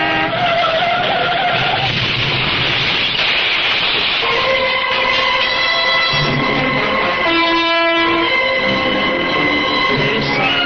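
A car crash: loud, harsh screeching and clattering noise for several seconds, followed by sustained steady high-pitched tones like a blaring horn continuing to the end, with no voices.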